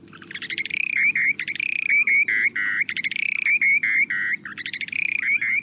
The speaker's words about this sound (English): take a listen to the short-billed dowitcher's breeding songs